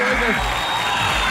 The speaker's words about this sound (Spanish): Otro aplauso para Gabriel. ¡Bravo! La gente se vuelve loca.